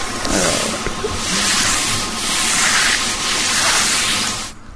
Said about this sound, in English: It's something that you use on the floor. Mop. Yes, it is a mop. It says here, mop being used. That doesn't sound like a mop.